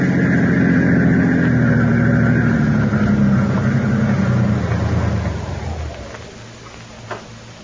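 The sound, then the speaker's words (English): A car engine rumbles loudly and steadily, then its drone drops and fades over the final seconds, leaving only a faint low hum. No one speaks. “I think I will go for that drive.”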